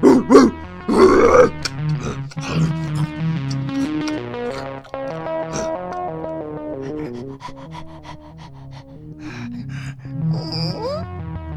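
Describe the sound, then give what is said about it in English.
A dog grunts, snorts and pants, with a loud burst of rough vocal noises at the start followed by steady, gruff huffing throughout. “Stop that! Stop that fucking dog!”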